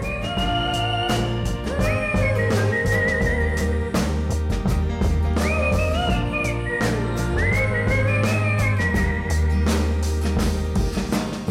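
A whistled melody with sliding, wavering pitch glides over a full band backing of steady bass, drums and chords, loud and upfront throughout, with no voices.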